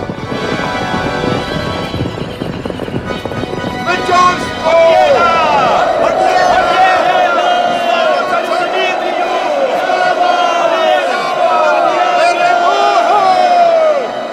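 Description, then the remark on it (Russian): A chaotic battle din as the Russians flee again: a large crowd shouting and yelling together, with rushing hooves and scattered cries rising over a dense, loud roar that continues throughout. “Сражение. Русские снова бегут.”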